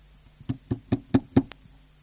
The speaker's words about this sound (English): And one day there was a knock at his door.